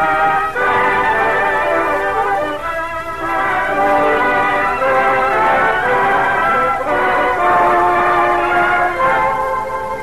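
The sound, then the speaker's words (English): A civilian train heading south and west rolls steadily along the tracks, its continuous rumble carrying a sustained, chord-like whistle tone that holds loud for the whole stretch, with no one talking. “On a civilian train heading south and west is Pop Pilarski, ex-sergeant in Army Ordnance.”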